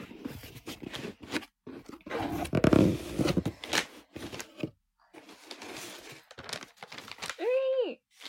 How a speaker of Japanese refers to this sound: でもそのなんか新しくなったタイプから開けると綺麗に開けられないから、カッターで綺麗に切っていきます。よいしょ。